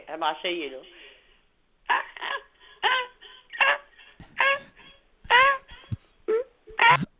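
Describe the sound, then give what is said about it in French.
A person's raspy voice imitates snow goose calls over the phone: a quick series of loud, nasal, yelping honks in short irregular bursts, each wavering in pitch, with brief pauses between groups. “OK, faites-moi les oies, là.”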